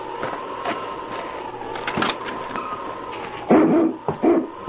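Husky dogs, including one named King, whine with a steady, high whimper, broken by a few sharp barks and yips that grow louder and bunch together toward the end. No one speaks.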